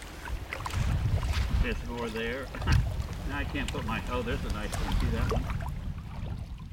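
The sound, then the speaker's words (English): Kayak paddles dip and splash through water in a few soft, low strokes as kayaks are paddled over old tree stumps just under the surface at a falling tide, with steady wind rumbling across the microphone and a voice murmuring faintly underneath. “And as the tide falls further and further, it becomes clear that another world is emerging, a past one, when a forest stood right where we're paddling in our kayaks.”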